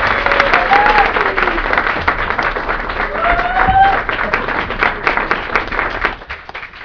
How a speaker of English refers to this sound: First of all, I want you guys, as the audience, to give a round of applause, large, loud!